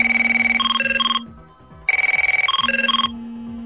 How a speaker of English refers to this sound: Yep, that's one of the many ringtone settings from an old Merlin telephone system.